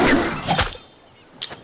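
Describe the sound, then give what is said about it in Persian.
A spoon, thrown behind someone, hits the ground with a rough, clattering burst, followed a moment later by a second sharp impact that rings briefly at a high, metallic pitch. “سوخ قاشق پشت سر انداخت. وقت در زمین خورد صدای عجیب کشید.”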